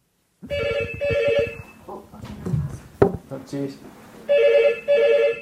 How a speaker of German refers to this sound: Das Telefon klingelt. Die Rezeption ist dran.